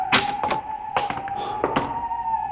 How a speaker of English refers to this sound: This door is in good working order. Almost as if it had been oiled recently.